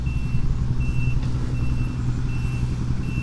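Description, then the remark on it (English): A truck's reversing alarm beeps steadily in a regular on-off rhythm over the heavy, continuous rumble of its idling engine. “Beep, beep, beep.”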